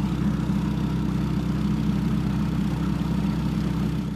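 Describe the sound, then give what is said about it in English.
A boat engine runs at a steady, droning rumble, deep and continuous throughout, even in loudness with no voices over it, as the boat travels to a village in the Irrawaddy Delta, Myanmar, during the rainy season. “I'm on my way to the village, and normally we'd go by road, but this is the rainy season, so we've had to take a boat.”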